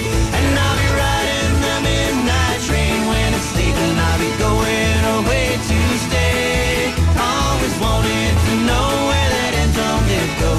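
A country band song plays loud, with a full ensemble of guitars and a steady, driving bass rhythm running continuously throughout.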